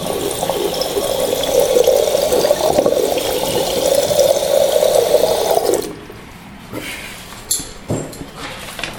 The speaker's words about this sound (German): Zuerst macht sie Wasserkocher an. Das Wasser sprudelt.